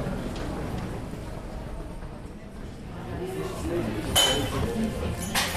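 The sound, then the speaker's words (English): A busy cafe in Vienna in the morning, with a low murmur of voices broken by a few sharp clinks and clatters of dishes and cutlery, the loudest coming toward the end. “I'm now with the family in a nearby cafe.”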